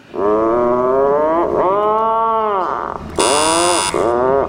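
atlantic puffin call

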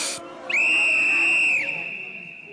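whistle blown to call

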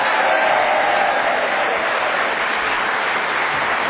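audience round of applause

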